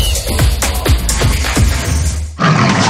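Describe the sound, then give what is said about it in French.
The Dulux Valentine panther lets out a loud series of about five rhythmic, grunting roars, each falling in pitch, followed by a sudden burst of broad rushing noise. “Dulux Valentine fait rugir sa panthère pour célébrer ses 100 ans de couleurs et de projets déco.”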